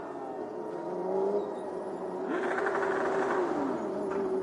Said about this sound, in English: Watching for the cars coming round. There's Jackie coming into position in the 69, so he is there. Just waiting for the final car to come round.